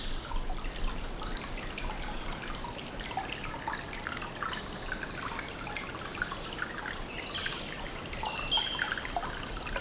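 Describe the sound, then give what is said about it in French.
Water gurgles and trickles steadily for the whole stretch, a busy babble, with a faint high bird whistle slipping through near the end. “L'eau qui glousse, la toile de fond des oiseaux qui sifflent.”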